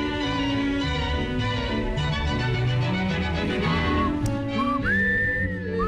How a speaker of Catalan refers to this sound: el xiulà. És que no em surt.